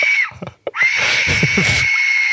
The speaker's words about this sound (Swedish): Hur kan man ta fram ett sånt här instrument? Det låter ju verkligen som en kvinna som skriker för sitt liv. Det är så jävla sjukt i huvudet att de har tagit fram en så här.